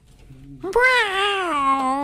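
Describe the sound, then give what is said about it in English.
A person's voice imitates an alley cat, giving one long, drawn-out meow that rises and wavers, loud, after a brief low hum at the start. “An alley cat comes out of the alley.”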